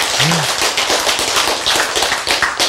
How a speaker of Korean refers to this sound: 누가 박수 치셨어요?